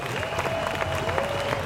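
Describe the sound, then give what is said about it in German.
A crowd at a Querdenken 711 demonstration in Berlin applauds the Berlin police, a dense wash of clapping at a fairly even level throughout, with a sustained tone humming underneath and faint crowd noise mixed in. “Wir haben auf der Arbeitsebene super zusammengearbeitet und deshalb einen riesen Applaus für die Berliner Polizei.”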